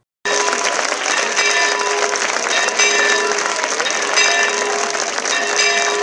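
Sustained applause from a crowd of hundreds at a romeria (religious procession) as the Mare de Déu del Remei arrives in Alcanar: a dense steady clatter of clapping with ringing bells mixed in, continuous and fairly loud throughout.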